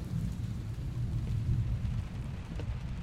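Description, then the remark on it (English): Steady, heavy rain pours down in a continuous dense hiss with a deep low rumble underneath, enveloping, with no voices. “Then I pulled up my coat and stepped back into the pouring rain.”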